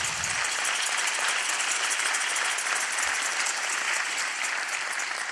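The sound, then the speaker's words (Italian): Steady audience applause fills the space, a dense wash of many hands clapping at a constant level throughout, with no voices heard over it. “Non mi sono fermato per cercare l'applauso, che avevo bisogno di respirare, no?”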